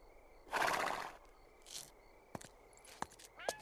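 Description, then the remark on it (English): A horse gives a short, breathy whinny at a dress shop, followed by a few sharp clops of hooves at a slow, uneven pace. “He regards Eove the horse with disgust as he passes him.”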